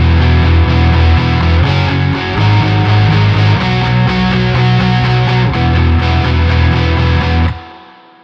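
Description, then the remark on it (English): Loud, sustained instrument chords change every second or two, washed in heavy reverb that smears them together. The final chord rings out and decays into a fading tail. No voices. “Ooh, too much reverb”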